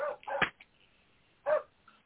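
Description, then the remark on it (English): A dog barks a few times, sharp yips in a quick pair followed by one more after a short pause, loud against an otherwise quiet background. “Jesus, Mary, and Joseph, I'm going to kill a dog.”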